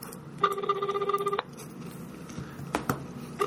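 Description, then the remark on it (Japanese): A telephone ringing tone plays once, a buzzy warbling burst lasting about a second, then stops and leaves low background hiss with a couple of faint clicks. No one answers or speaks. “全然繋がんない。”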